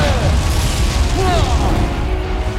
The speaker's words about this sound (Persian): انفجار همه جانبه.